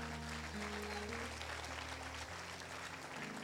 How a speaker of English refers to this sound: Give the Lord a clap.